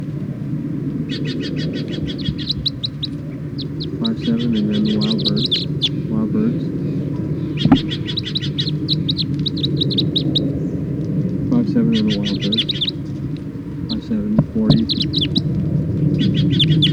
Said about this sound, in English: Start recording the captive birds.